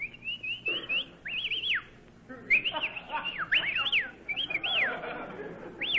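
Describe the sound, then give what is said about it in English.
Someone whistles a series of short, swooping high phrases in quick bursts with brief pauses between them, clear over a low, muffled background hum. “Well, we may as well whistle at each other.”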